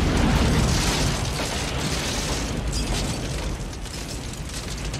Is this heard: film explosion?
yes